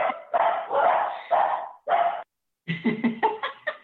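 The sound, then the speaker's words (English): Dogs bark in a loud, overlapping flurry: a few longer barks, a brief pause, then a quick run of sharp, rapid yaps. No one speaks. “That could have been my house for sure. With all the dogs.”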